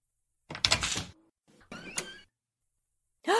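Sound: door being opened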